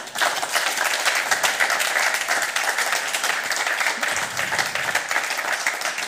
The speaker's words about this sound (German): Vielen Dank. Applaus bitte.